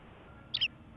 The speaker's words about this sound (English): Can you hear those birds? They won't shut the fuck up.